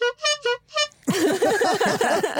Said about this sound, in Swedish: Jag gillar att det inte är en effekt eller något. Det är en faktisk tuta. Du sitter och tutar med en tuta.